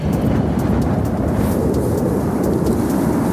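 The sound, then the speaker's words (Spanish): An electrical thunderstorm over Zaragoza, Spain, at one in the morning, with a deep, continuous rumble of thunder rolling beneath a steady wash of rain-like hiss, loud and unbroken throughout, with no voices. “Es una tormenta eléctrica que se cernía hace unas horas sobre la capital aragonesa.”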